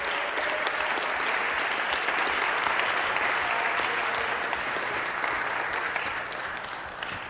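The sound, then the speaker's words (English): A crowd applauds steadily for a head teaching fellow coming up on stage as a course wraps up, a dense, sustained wash of clapping that holds at a fairly even level before easing off slightly near the end. No voices stand out. “So a huge round of applause, and a bouquet, if we could,”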